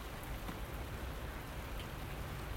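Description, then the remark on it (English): Steady morning rain patters on rubbish bins, upturned buckets and leaves, a continuous hiss of drops with occasional sharper taps standing out, even in loudness, with no voices. “Oh, very pleasant this morning. Soothing, calming rain.”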